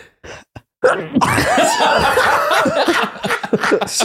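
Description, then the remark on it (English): A few short, sharp bursts give way to a loud, explosive fit of sneezing that trails into breathy, laugh-like vocal noises. No clear speech. “He's trying to sneeze the fat away.”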